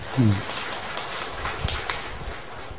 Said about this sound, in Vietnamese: Thưa quý vị công nhận điều này không? Cho anh tràng pháo tay.